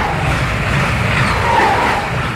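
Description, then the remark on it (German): A steady, loud rumbling roar of a train going by, with deep low-end drone and a broad hiss on top that holds almost unchanged throughout, no voices. “Wenn der Zug hier vorbeifährt irgendwie, das ist für mich nicht unbedingt ein Zeichen der Hoffnung.”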